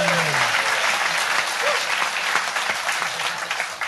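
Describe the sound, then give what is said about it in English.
A steady round of applause from an audience, dense crackling claps sustained for several seconds at an even loudness, with a brief voice heard at the very start. “if we were in America, that would get a round of applause.”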